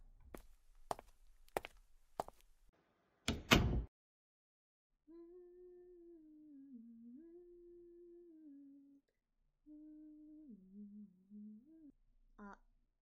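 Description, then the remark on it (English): A few footsteps lead into a single loud, solid thump of a bedroom door shutting, followed by a steady low hum that wavers in pitch. “I'm gonna go to my room and close the door, okay?”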